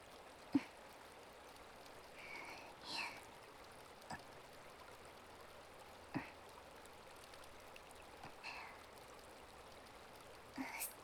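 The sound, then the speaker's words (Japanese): Steady flowing river water as a freshly sharpened blade is rinsed in it to wash off the iron smell and heat, broken by a handful of sharp little splashes and clinks spaced a few seconds apart, fairly quiet, with no voices. “やって研いだばかりの鉄臭さとか熱とかを川の水で流してるんですよ。”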